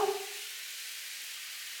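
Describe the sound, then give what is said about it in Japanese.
A shower sprays in a steady, even hiss of water that runs unbroken for a couple of seconds, opening with a brief faint tonal squeal before settling into constant spray. “シャワー貸して。”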